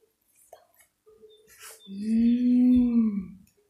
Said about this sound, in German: Es dauerte nicht lang, da kam eine Kuh über die Wiese.